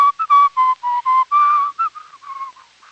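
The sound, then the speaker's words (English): A person whistles a short tune: a quick run of clear, bright notes, a longer held tone in the middle, then softer, wavering notes trailing off. No talking. “how can we do this whistling when you're going to die?”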